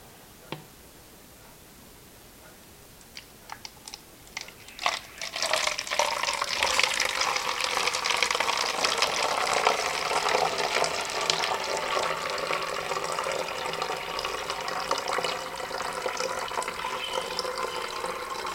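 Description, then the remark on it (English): A few light clicks and taps of a bottle being handled, then a steady gurgling stream of film stop bath poured into a bottle labeled stop bath for over ten seconds, with no voices. “I'm going to pour that in the bottle I labeled stop bath.”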